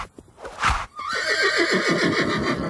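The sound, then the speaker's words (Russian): A white horse lets out a loud, quavering whinny. It starts high and shrill, then trembles downward in pitch over a second or two, preceded by a brief breathy snort. No voices. “Бросились они к перине, и тут Шьер-батор опередил их, подлетел на белом коне, ударил по постели алдаспаном и рассек вдоль и поперек.”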